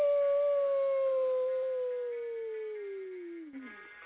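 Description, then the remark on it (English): A dog lets out one long, unbroken howl that starts high and slowly slides downward in pitch, fading and wavering at the very end. It's clear, with no voices. “This is it's my dog”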